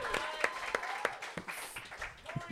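Brief audience applause: sharp, steady claps at a quick, even pace, moderately loud, with faint voices murmuring underneath.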